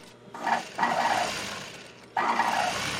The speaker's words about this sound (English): In a moment, she's sitting down, threading up her sewing machine.